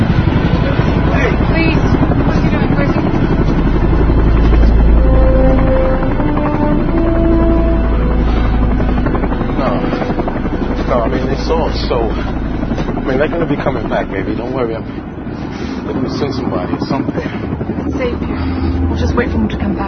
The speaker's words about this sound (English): What's he pointing at? Helicopter. Hey, it's coming.